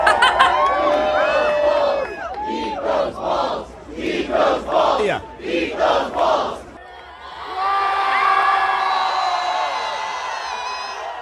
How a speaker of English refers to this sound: That's them cheering when he ate the last one.